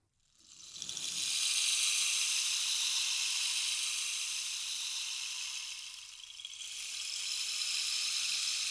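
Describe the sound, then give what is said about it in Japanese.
A rainstick pours a steady, bright shower of tiny pattering beads for several seconds, briefly thins out, then swells again as it is tipped the other way. No voices. “これはレインスティック。雨を降らせる。”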